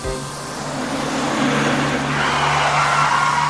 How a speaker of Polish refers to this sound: Samochód zaczął nagle hamować